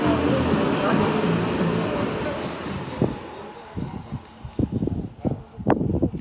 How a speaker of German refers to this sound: Die Sonne scheint weiterhin. Wind kommt von irgendwo. Es ist auf jeden Fall Wind da. Mal sehen, wie sich das gleich hier außerhalb der Stadt Leuven damit gestaltet.